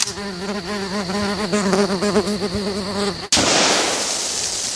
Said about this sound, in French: Qu'est-ce que ça a bouffé, les mouches cette année?